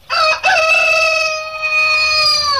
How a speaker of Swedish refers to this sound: Ja, det var ju likt. Kuckeliku.